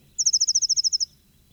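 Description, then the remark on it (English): A bird sings a quick, even trill of about a dozen identical high-pitched notes at 8:23, as its mate flies to join it, clear and fairly loud over faint low background noise, lasting under a second. “8:23, mate flew to join singer.”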